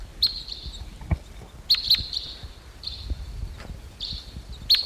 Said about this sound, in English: It's coming in. Two birds. And they're now perched in the medium-sized Ponderosa pine toward the top. This is them. They're not getting flight calls, but some other kind of chittery call. Crossbill coming in. Two birds.